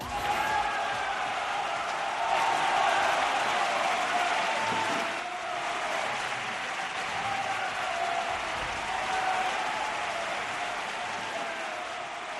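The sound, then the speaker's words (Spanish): Sustained applause from a large crowd fills the whole stretch, a dense, steady wash of clapping at even loudness with no pauses and no voices on top. “Es muy bonito el aplauso, pero debería entrar una cuña en estos momentos.”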